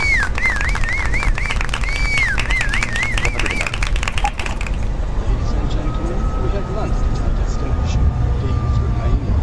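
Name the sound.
airplane landing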